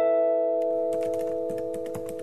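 Quick, irregular clicks of someone typing a website address on a computer keyboard, starting after a brief pause and running over a steady electrical hum with no talking.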